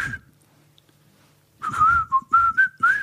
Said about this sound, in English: It's not a good whistle, is it? Well, yeah, it's a hard whistle. Sometimes I can whistle. No, I didn't mean whistling. I meant the tune isn't. The tune is not good. No, to your whistle. Whistling was lovely.